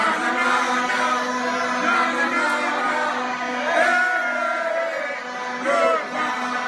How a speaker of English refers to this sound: As soon as Republican State Senator Scott Wagner opened his microphone, the ruckus began. First came the horns, then the chants, and finally the send-off, courtesy of activists and union members in the crowd.